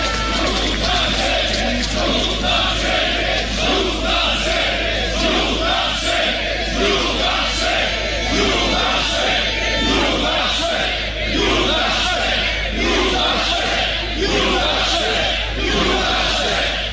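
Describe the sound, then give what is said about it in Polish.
A large crowd chants the Polish word "Judasze" ("Judases") over and over in a steady, loud rhythm, the massed voices rising and falling with each repetition without a break. “Co nie rozumią, ale naród krzyczy Judasze.”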